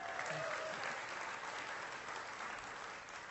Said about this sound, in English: I paused long enough to see if I could get a smattering of applause for you. So I did. They did it.